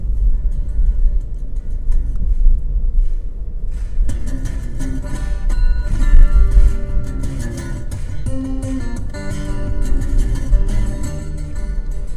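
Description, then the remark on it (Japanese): Steady low rumble of a small car's interior while driving through a town in Shikoku, Japan, continuous, with music coming in over the road noise after a few seconds; no one speaks. “この音声は僕の大好きな四国の街を走りながら、ちっちゃな車の中から音声を収録しています。”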